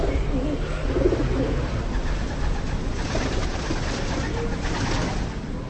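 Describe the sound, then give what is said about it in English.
Pigeons roosting on the buttresses of St. Bartholomew's Cathedral, a 14th-century Gothic building near the main square of Colleen, coo in soft, repeated low burbles, clearest early on, set against a steady wash of outdoor background noise with no one speaking. “Pigeons roost peacefully on the buttresses of St. Bartholomew's Cathedral, near Colleen's pretty main square.”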